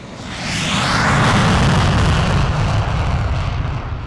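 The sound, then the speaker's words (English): F-22, F-16, F-15 and A-10 military fighter jets roar on takeoff from the runway at Eielson Air Force Base: a loud, rumbling blast of engine noise swells within the first half second, then holds as a sustained, broad, hissing thunder with no voices. “This week, F-22, F-16, F-15, and A-10 jets are lining up for takeoff.”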